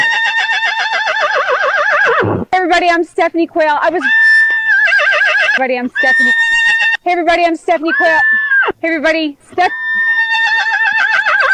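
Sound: horse neighing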